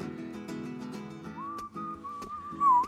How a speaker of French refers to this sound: qui siffle là.